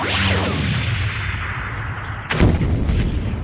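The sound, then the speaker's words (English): A loud explosion of a thrown thermal detonator hitting snowy ground 30 meters away roars with a dense rumbling wash of debris, sending snow high into the air, then a second sharp blast bursts in near the end, with no voices present. “The explosion sent a shower of snow high into the air.”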